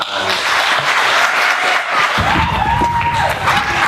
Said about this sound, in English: The unexpected applause.